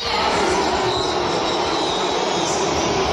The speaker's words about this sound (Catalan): que el parc dels prínceps xiulin d'aquesta manera Messi quan han anunciat el seu nom abans de jugar avui contra el Lío?